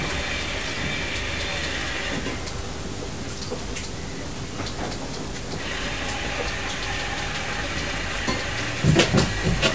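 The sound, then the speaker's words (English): A small train rumbles and rattles along steadily, a continuous hissing clatter with a few sharper knocks near the end and no one talking. “I'm on this little train and you can go on that big train.”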